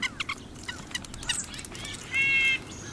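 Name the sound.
winter birds calling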